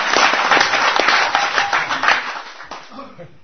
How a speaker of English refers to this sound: I mean, give a round of applause to God for appearing as a deity.